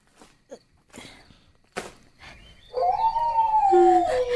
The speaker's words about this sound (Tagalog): Ah, ayun na naman. Malulong na naman yung mga aso.